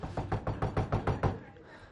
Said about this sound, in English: And then you hear the knocking. Are you going to let me back in? How long are you going to leave me out here? It's cold out here.